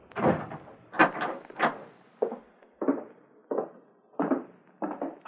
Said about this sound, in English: I'll lock the door.